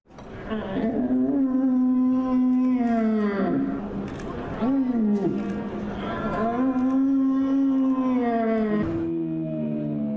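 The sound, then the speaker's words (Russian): At a competition in Dortmund for the best male stag mating roar, a person uses special trumpets, horns or shells to imitate a rutting stag's roar, producing loud, drawn-out moaning bellows that rise and fall in pitch, repeated in several long calls one after another with barely any pause. “С помощью специальных труб, рогов и ракушек они имитируют клич оленей.”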